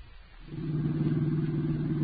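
A car driving out to Uncle Garth's home, its low engine drone swelling after a brief quieter start and then holding a steady, rumbling hum with no voices over it.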